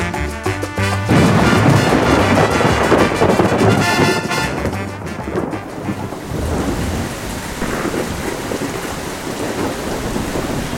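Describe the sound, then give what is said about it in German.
A heavy thunderstorm heard from under arcades: loud rumbling thunder rolls through the first half over a sudden pouring rain, then eases into a steady, dense downpour with gusty wind. “Endlich das Gewitter. Wie ich alleine unter den Arkaden sitze, in einem gelben Schaukelstuhl. Ringsum rauscht es, ein plötzlicher Platzregen mit Wind.”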